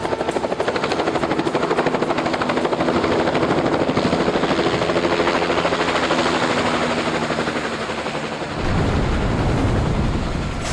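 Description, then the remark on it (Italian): A helicopter coming in to land on a helipad, with wind from the north-northwest at 12 knots. Its loud rotor thuds in a rapid, steady chop with a whining engine roar, the low end thinning and the tone shifting just before the end. No voices. “Potete atterrare sull'helipad.”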